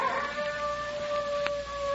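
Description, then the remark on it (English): A neighbor's dog howls in a long, steady, drawn-out note that carries through the whole moment, sounding alone, with no voices over it. “It's just some neighbor's dog.”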